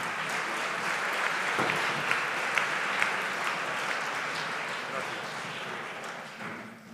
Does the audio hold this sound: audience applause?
yes